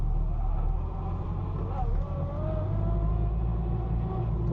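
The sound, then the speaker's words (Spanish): An old car engine, with the choke (starter) pulled, runs with a loud, steady low rumble, briefly shifting pitch about halfway through as if lightly revved, then settling back into its even drone. “A por todas, joder, esto era el starter. El starter. De hecho, joder, esta mañana estaba frío y he tenido que arrancarlo unas cuantas veces.”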